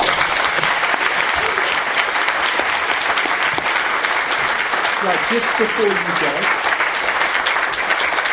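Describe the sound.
Sustained audience applause after a lecture at the LSE, a dense steady patter of many hands clapping throughout, with a voice briefly speaking over it near the end.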